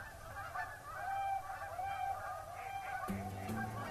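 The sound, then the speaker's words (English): A dense chorus of swans calling, with overlapping honking, bugling cries that rise and fall in a steady, continuous din echoing across the water. A low, sustained tone joins in over the final second. “joined by a din of calling that echoes across the water like the baying of some otherworldly hound pack”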